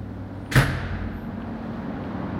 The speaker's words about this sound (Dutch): Er moet even een geheime code ingevoerd worden. Gaat er een stalen deur open.